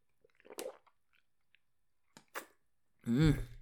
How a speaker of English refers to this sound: All right, sip some water.